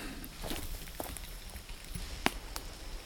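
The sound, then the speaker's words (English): Footsteps crunch along at an uneven pace, soft scuffs with one sharper snap near the end, as someone walks down to stand by a creek downstream from a road, over a steady low rushing background of the creek's flowing water. “I think I'm gonna try to walk down there and stand by the water.”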